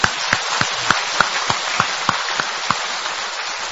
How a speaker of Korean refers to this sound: 예, 우리 자신들을 참 이렇게 감사하면서 또 자신에 대해서 대견하다는 마음으로 박수 한번 쳐볼까요? 예.